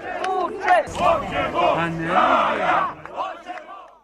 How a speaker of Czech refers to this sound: Na Trgu Republike okupilo se mnogo više ljudi nego prethodnih godina. Nosili su stranačke zastave i uzvikivali dobro poznate parole.